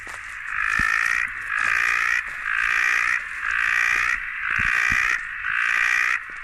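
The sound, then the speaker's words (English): A loud, dense chorus of a big group of male frogs calling to attract mates pulses in six regular bursts with brief gaps between, harsh and buzzing, continuous, with faint low thumps underneath. “So it's a big, rowdy group of male frogs that you're hearing here.”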